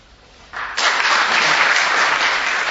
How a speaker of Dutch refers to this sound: Applaus voor …